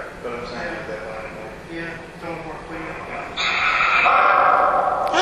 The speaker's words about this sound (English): We do have a dog here in spirit. I thought I heard a bark. Yeah, you did.